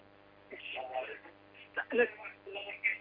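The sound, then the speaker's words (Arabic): Television sound plays in the background of a caller's telephone line on a call-in show, with muffled voices in several short bursts over a faint steady hum, thin and band-limited like audio carried through a phone. “اخفض التلفاز واسمعيني من الهاتف.”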